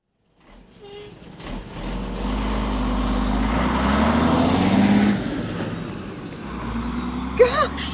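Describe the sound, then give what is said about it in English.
A heavy grain lorry rumbles past, its deep engine drone swelling over several seconds and then easing away, with a brief sharp hiss near the end. “I'm glad I didn't meet that grain lorry on the drive.”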